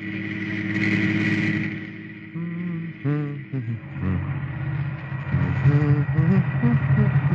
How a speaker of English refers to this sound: It seems that driving to work one night in his car...